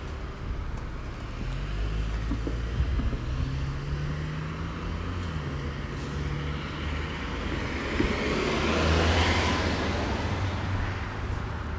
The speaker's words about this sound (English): I hear a car passing.